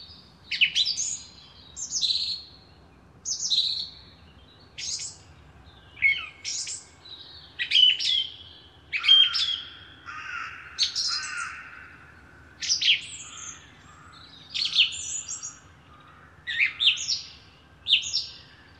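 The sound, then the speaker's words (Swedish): A song thrush sings loud, clear phrases, each short burst of notes repeated in quick succession with brief pauses between, continuing steadily throughout. “För säkerhets skull så upprepar taltrasten sina strofer.”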